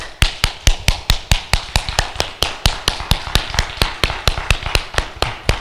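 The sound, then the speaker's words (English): Steady, rhythmic hand clapping during praise and worship, at about four sharp, loud claps per second, keeping an even beat for several seconds with only a faint wash of noise between claps. “I don't know what I'm clapping about, but the Lord told me to clap.”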